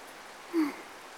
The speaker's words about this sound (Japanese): 雷は収まってきたけど、もう少し降るみたい。